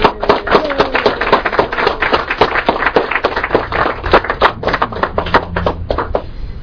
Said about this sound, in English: So why don't you just embarrass him by giving a huge hand of applause.